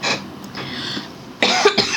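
A person coughs several times in short, harsh bursts, a brief cough at the start and a louder cluster near the end, with no talking.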